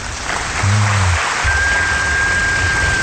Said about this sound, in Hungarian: Itt vagyunk, igen. Ez jó hangos tapsod.